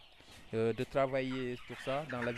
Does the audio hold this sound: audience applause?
no